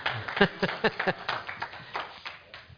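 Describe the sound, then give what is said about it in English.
Scattered audience applause for Turning Point USA: a short run of sharp, irregular claps from a small crowd, fairly quiet, with no one speaking over it. “I didn't know I'd get applause out of that.”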